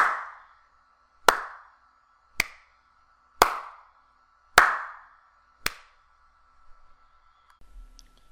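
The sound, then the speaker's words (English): Six sharp, loud hand claps at roughly one-second intervals, each leaving a brief ringing, echoey tail, followed by a couple of seconds of faint rustling; a clap test recorded with a Blue Snowball condenser microphone. “I'll now do some clap tests. This is with the Blue Snowball microphone.”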